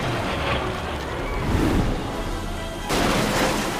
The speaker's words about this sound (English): The ship hurtles towards the Eiffel Tower. Tourists look up as it bounces off the surface of the river.